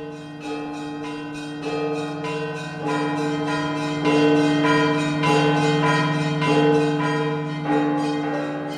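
Several large 19th-century Russian-made bells of the Alexander Nevsky Cathedral in Sofia, Bulgaria, peal together in a steady, overlapping rhythm, their strikes ringing out loud with a somewhat tinny, jangling tone and a sustained hum underneath. No voices.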